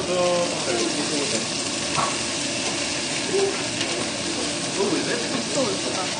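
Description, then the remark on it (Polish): Onion and garlic fry together in a pan for chili con carne with a steady, dense sizzle that stays loud throughout, broken by occasional scraping and stirring sounds. No one speaks. “Cebulę z czosnkiem musimy razem przesmażyć.”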